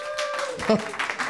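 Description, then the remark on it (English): Scattered applause from audience members who are not in show business, at a live show in the Nerd Melt showroom at Meltdown Comics in Los Angeles on April 24, 2017: a brief patter of clapping with crowd murmur and a short vocal whoop midway, moderately loud, just over a second. “Applaud if you're not in show business.”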